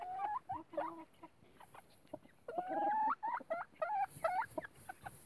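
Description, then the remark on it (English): Chickens make high, whiny calls in a coop: a run of rising, drawn-out cries followed by several short repeated squawks, moderately loud, with no talking. “quit whining. Okay, birds.”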